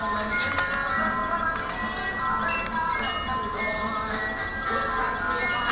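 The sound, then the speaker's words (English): A cuckoo clock ticks steadily and gives its two-note cuckoo call announcing 9:30, heard beneath loud, continuous music playing throughout. “There's the cuckoo.”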